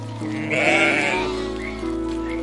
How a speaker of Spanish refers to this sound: Permite que una de las ovejas se aleje un poco de sus compañeras para acercarse hacia ti con mansedumbre.